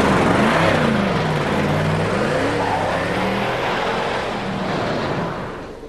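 A car engine hums steadily with harmonic tones shifting in pitch as it pulls away, easing off slightly near the end, with no talking.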